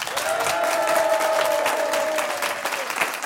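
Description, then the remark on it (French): A live audience in Sergine, France, applauds to encourage game contestants, a dense wash of many hands clapping at once, loud and sustained for a few seconds with a faint whistle or cheer riding over it. “À Sergine, en public, pour jouer ce vendredi et pour encourager nos candidats, vous allez donc les applaudir,”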